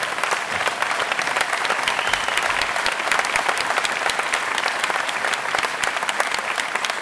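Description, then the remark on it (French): A crowd applauds steadily for about seven seconds for the team from Toulouse, a dense, even wash of many hands clapping at a constant loud level with no voices standing out. “faire dire un grand merci à l'équipe de Toulouse, que je vous demande d'applaudir”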